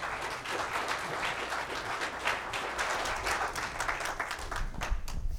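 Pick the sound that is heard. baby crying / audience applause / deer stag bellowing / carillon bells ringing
audience applause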